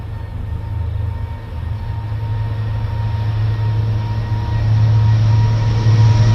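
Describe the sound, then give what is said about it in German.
A train pulls away from a station, its low motor drone rising steadily in pitch and loudness as it picks up speed, with a constant rumbling wash of rail noise and no voices. “während der Zug die Station verlassend sein Tempo beschleunigt.”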